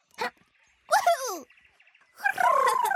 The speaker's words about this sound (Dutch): Een badeend die piept voor Box.